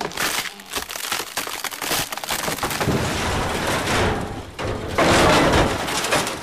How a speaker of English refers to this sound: I started to leave when I heard a terrible crack and the sound of metal bending.